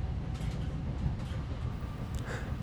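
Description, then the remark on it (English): A train rumbles past with a steady, heavy low roar and faint rattling on top, continuous throughout with no voices. “I mean, that said, whenever the train passes your flat, even today I still look up to see if you're there, perched Muppet-like at the upper floor window, waving wildly down at a train full of strangers”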